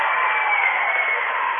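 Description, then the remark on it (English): A packed crowd at Auburn High School roars and cheers in a dense, steady wash of noise that holds at the same loud level for the whole moment, with no single voice standing out. “It's a packed house, as you can hear.”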